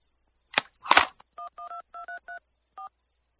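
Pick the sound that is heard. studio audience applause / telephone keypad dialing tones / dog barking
telephone keypad dialing tones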